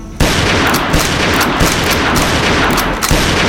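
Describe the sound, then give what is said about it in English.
Rapid fire from a Henry lever-action rifle, a quick string of loud cracks coming roughly every half second over a dense, roaring wash of sound, with no voices. “So I just leveled that Henry and let it bang as fast as I could pull and lever.”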